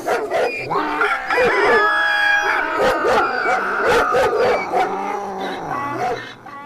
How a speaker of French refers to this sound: Et au signal donné par l'âne qui brailla, le chien aboya, le chat miaula, le coq chanta, tous ensemble.